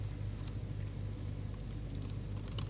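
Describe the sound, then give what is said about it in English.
Soft, scattered computer keyboard clicks tap out at an uneven pace over a steady low hum, fairly quiet, with no voices, as someone types text into an entry on screen. “And now hopefully when I type just over here, you'll see a little pencil.”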